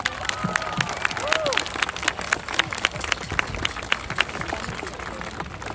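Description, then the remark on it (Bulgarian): Enthusiastic applause from a crowd for Bulgarian teachers on a holiday honoring the people of letters, dense and steady clapping that carries on without a break, with a few rising whistles and cheering voices mixed in near the start. “Българските учители, бурни аплодисменти за тях.”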